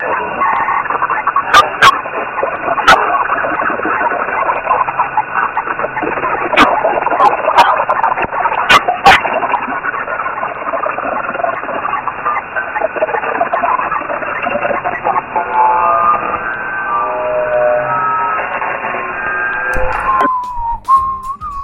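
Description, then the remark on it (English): The voice-scrambler version of the XM Whales radio signal in idle mode, with no voice or data: a steady, muffled wash of garbled noise with warbling, chirpy tones and a few sharp clicks, running continuously for about twenty seconds before cutting off abruptly. “insert a sample of the scrambler from the last episode so the listeners can hear the difference between the two XM whales”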